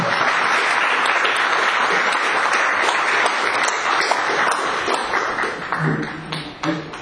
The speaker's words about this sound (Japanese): 皆様もう一度盛大な拍手をお願いします。